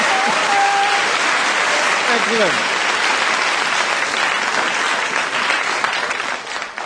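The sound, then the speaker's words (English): An audience buzzes with anticipation and applauds before a song is performed, a dense steady patter of clapping with crowd murmur and a brief cheer or whistle early on, holding loud for several seconds before easing off at the end. “Did you hear that buzz of anticipation?”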